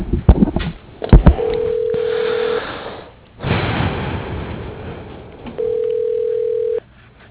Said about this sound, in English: For HVAC, your call is being transferred. Just connecting to his line. It's probably going to be voicemail, though.